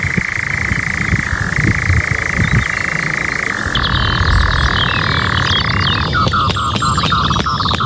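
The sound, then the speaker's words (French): A male bird's steady, mechanical churring trill runs unbroken for about six seconds, like a moped engine, with other birds chirping and calling faintly over it toward the end; given in the evening on its territory. “un chant stridulant qu'on qualifie souvent d'un peu de mobilette, hein, le bruit d'une mobilette, hein, un bruit stridulant vraiment unique”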